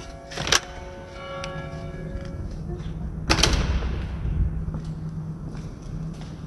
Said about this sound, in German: Eingang für Besucher und Gäste des Klosters und des grossen Saals. Ich mache mal die riesige Tür auf.